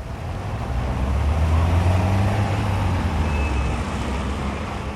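Steady road traffic noise in Switzerland with a continuous low rumble of passing cars and trucks, swelling slightly midway, fairly loud, with no voices.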